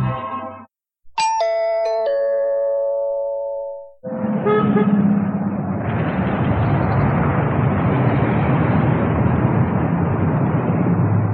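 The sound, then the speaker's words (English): A few loud, ringing horn blasts sound in quick succession, then give way to a dense, steady roar of traffic that continues for several seconds. No one speaks. “404 Automatique relieves traffic headaches.”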